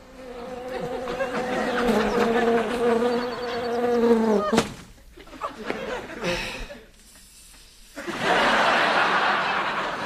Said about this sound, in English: Bees are buzzing.